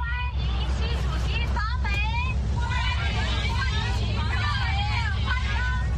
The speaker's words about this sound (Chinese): 一位推特网友在网上转发了一段泄露出来的视频，在驶往旧金山的大巴上，红帽子核泛党正在排练赞美习近平的口号。